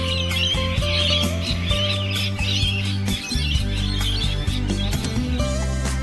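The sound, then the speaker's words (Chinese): A flock of Australian parrots and other birds at Salamander Shore, Port Stephens, Australia, chirp and squawk continuously around sunrise in busy overlapping bursts over a steady, loud low tonal backdrop, with no one speaking. “Salamander Shore 是欣赏日出的最佳观景台，让人惊讶的是这里还聚集着很多澳洲特有的鹦鹉以及其他鸟类，不过只有在早上8点钟左右才能看到它们的身影。”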